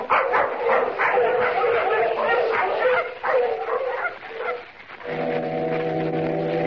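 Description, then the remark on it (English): A pack of sled dogs barks and yips excitedly in a dense, overlapping, loud chorus, before a steady low foghorn blast takes over near the end. “Come on, we'll get the dogs on.”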